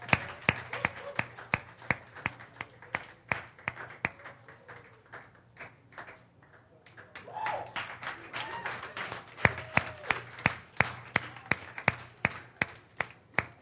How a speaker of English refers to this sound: If you're new, we cheer when the sound guys are doing an amazing job because their job is very difficult.